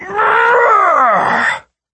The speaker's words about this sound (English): He shouted inarticulate rage noises at Gary and Jeff for a while longer.